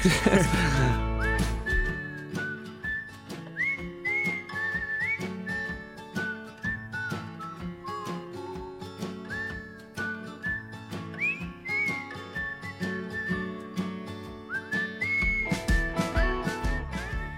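Someone whistles a bright, gliding melody over a full instrumental backing with steady percussion, the whistled phrases rising and falling clearly above the music throughout.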